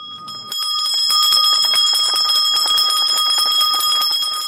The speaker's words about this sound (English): Deng Deng Hok, South Sudan's General Education Minister, rings a bell marking the commencement of secondary school final examinations at Chinese Senior Secondary School in Juba.